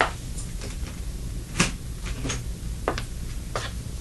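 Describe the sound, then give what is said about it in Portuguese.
A door being shut, with one firm thud in the middle and several lighter clicks and knocks around it, over a low steady background rumble. “Feche a porta.”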